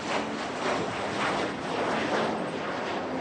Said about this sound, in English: Or how about an airplane taking off, just for good measure?